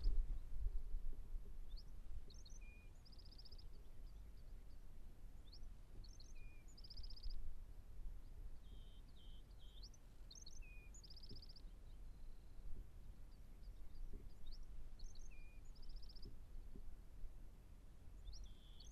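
Birds sing at dawn, just before sunrise, while it rains in the Bay Area, in repeated short, high chirping phrases every few seconds, fairly quiet, over a steady low rumbling background with no voices.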